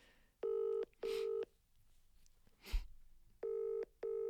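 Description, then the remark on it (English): A phone call to the speaker's husband, placed live on air, rings over a speakerphone in two paired double-rings separated by a short pause, with a faint click or rustle between them and no one talking. “I'm actually going to phone him on air. Let's put him on speaker and see what he says.”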